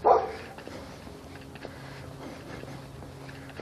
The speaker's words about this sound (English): Ooh, a dog.